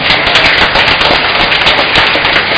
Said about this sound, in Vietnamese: Chúng ta chúc mừng ca đoàn hôm nay một tràng vỗ tay thật lớn.